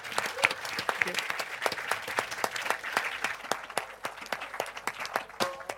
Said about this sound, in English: Okay, thank you all very much, gentlemen, for your time, and a big round of applause for